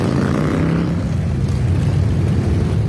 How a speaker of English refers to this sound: That would be motorcycles, a lot of them. It was the 32nd annual Rolling Thunder Ride for Freedom. Hundreds of thousands of riders honor military members captured, missing, or killed in combat.